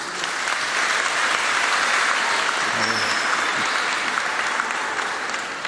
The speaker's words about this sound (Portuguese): Olha, eu quero pedir licença, viu, Pezão, a todas as autoridades para, ao invés de nominá-los um a um, eu quero nominar os jovens que estão aqui. Eu quero pedir um aplauso a eles.